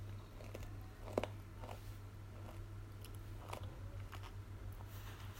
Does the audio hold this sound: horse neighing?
no